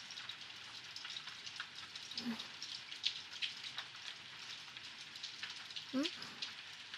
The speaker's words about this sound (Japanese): 私も雨はそんなに好きじゃないけど、雨の音は嫌いじゃないんだよね。ちょっと矛盾してるかもしれないけど、雨の音って聞いてるとなんか落ち着くよね。